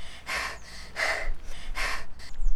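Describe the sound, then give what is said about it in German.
Heavy, rhythmic panting from two people out of breath after a chase on foot, with three loud breathy bursts at a steady pace, separated by short quieter gaps, and no talking. “Sie schnauften wie verrückt.”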